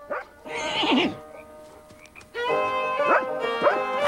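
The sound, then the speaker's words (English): A shaggy, light-coated, retriever-like dog barks excitedly in two bursts, a short yelping outburst followed by a longer run of eager, high-pitched barks, with no talking, as it stops horses on a dark plain at night. “A shaggy, light-coated, retriever-like dog, wagging its tail, stops the horses in their tracks.”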